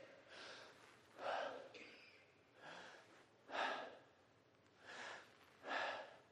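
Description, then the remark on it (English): Slow, deep breaths drawn in and let out audibly several times in a steady rhythm, with the airy inhales and exhales alternating and no talking. “Do you know what's happening if you're doing that? You're breathing.”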